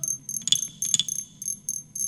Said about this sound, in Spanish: Era de noche. Era de noche y los grillitos cantaban.